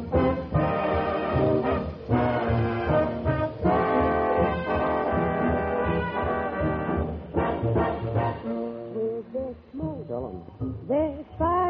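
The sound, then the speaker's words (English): A swing band plays loudly, with the bandleader's bright trumpet carrying sustained, brassy notes; near the end the horn bends and wavers through quick sliding phrases. No one speaks. “And listen for the maestro and his trumpet.”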